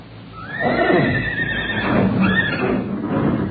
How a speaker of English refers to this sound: When I heard the horses getting so restless, I took a flashlight and a rifle and went for a look-see.